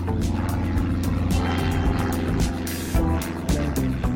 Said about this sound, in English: A few weeks ago, I got up well before sunrise, made my way to Heathrow Airport in London, and got on board a tiny propeller plane.